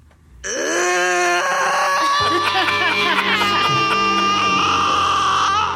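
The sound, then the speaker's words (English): A woman on a TV show lets out a long, piercing scream through a window as others drive away. It starts after a brief moment of quiet and stays loud and anguished for several seconds, rising and wavering without a break. “It's one of the best screams I've ever heard on TV.”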